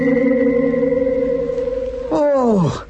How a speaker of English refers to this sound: Where did it go? Skimmed just above the ground for a few yards and then went into a vertical takeoff. Oh, look at it now. No more than a tiny spot in the sky. What a fantastic climbing rate.